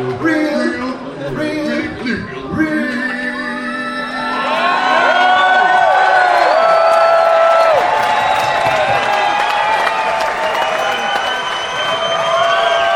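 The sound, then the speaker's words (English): A large crowd erupts into loud, sustained screaming and cheering during a song, with many overlapping high-pitched shrieks and whoops swelling after a few seconds and continuing at full intensity. “People just love that song and they start screaming in the middle of it.”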